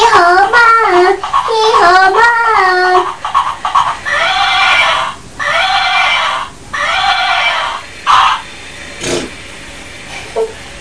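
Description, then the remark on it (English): A donkey on a beach brays loudly, beginning with a wavering, tonal honk and breaking into a run of harsh, rasping heaves that rise and fall in a steady rhythm. “Is there any more donkeys that are his friends?”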